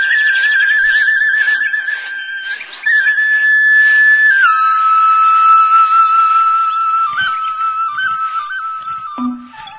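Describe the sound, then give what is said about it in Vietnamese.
A solo Vietnamese bamboo flute plays a slow, sustained melody with wavering ornaments and gentle pitch steps, clear, with no voices. “dù vậy thì khán giả đến xem buổi tổng duyệt vừa qua của đoàn xiếc Việt Nam vẫn bị lũy tre làng Việt Nam, những chiếc áo nâu sồng mộc mạc, những bước chân thoăn thoắt trên đường quê bị tiếng tiêu tiếng sáo làm mê hoặc.”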